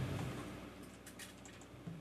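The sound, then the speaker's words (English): Faint, quick keyboard clicks tap out in a short irregular burst as someone types to look up a song, over a low, steady background hum, with no one talking. “Want me to type?”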